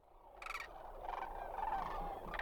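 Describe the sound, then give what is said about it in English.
Rolling, trumpeting rattles of migrating sandhill cranes flying overhead at dusk in early spring along the Platte River in Nebraska, several loud harsh bursts standing out over a steady wash of overlapping calls, with no talking. “standing almost 5 feet tall, the elegant sandhill crane makes loud trumpeting rattles, given in flight or from the ground.”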